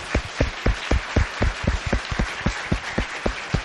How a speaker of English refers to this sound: He was using parts of that book to apply to what he was doing to curtail slave trafficking in Washington, D.C., which, by the way, that in itself kind of deserves a round of applause.